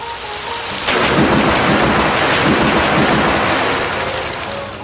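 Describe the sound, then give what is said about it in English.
A video game storm attack effect, the move Storm Rush used by Urtana in a battle: a sudden loud burst of rumbling thunder and roaring rain kicks in after a quieter start, sustaining a dense, crackling wash of noise throughout. “Urtana used Storm Rush.”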